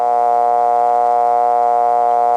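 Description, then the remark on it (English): A rural Bell System telephone dial tone: one steady, unbroken buzzy hum with a rich, reedy timbre, holding at constant pitch and loudness throughout, with no voices or other sounds. “Here's another Bell system rural dial tone.”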